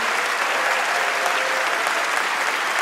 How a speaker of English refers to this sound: And can we have one more round of applause for all our guests tonight?